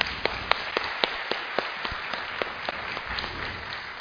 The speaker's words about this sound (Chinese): 我哋俾掌声耶稣好嘛。